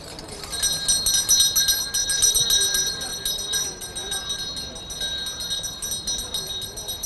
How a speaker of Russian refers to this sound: А продает его торговец у Дамасских ворот не только с веселыми колокольчиками, но и с молитвой. Когда он наливал, он молился.